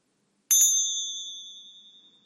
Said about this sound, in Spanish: después de oír las campanillas, la invitación es que vuelvas de nuevo a la respiración de este momento.